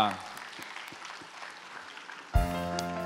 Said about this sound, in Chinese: 一起拍手赞美他，哈利路亚！